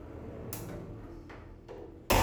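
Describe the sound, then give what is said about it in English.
A big glass shower door swings closed: a few light ticks and clicks, then a sudden louder shutting knock at the end, over a low, steady hum. “We're going to close this big, beautiful glass door.”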